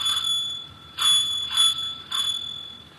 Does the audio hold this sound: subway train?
no